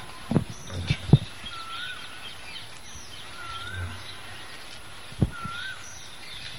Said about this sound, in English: Quail, cuckoo is also singing. Is that a cuckoo? Yes. That's cuckoo.